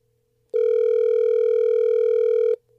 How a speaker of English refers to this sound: Sorry, the phone's really loud when we dial.